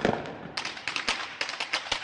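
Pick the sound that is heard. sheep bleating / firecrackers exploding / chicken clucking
firecrackers exploding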